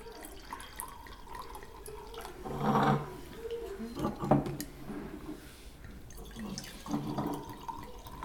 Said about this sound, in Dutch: Zal ik de rode wijn schenken?